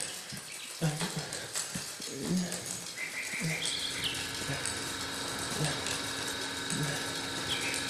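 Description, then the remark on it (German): Bicycle pedals are pushed hard and turn steadily while the freewheel ratchets in a busy, rhythmic stream of mechanical clicks, moderately loud, with a few high tonal squeaks mixed in. “Ich mein, ich war ja noch nie auf einem Rädle gesessen, aber weil ich groß und stark wie ein Baum war, habe ich mit ganzer Kraft in die Pedale treten.”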